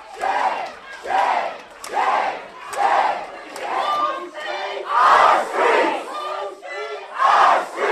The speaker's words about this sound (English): Counselors walked out and chants ruled the room for nearly half an hour.